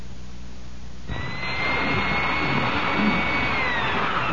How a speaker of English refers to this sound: Well, you want to buy that one? I don't know. Electric drills don't grow on trees, not yet.